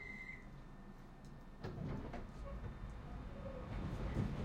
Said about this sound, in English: This is the Central New Line train to Queen's Park. This train is ready to leave.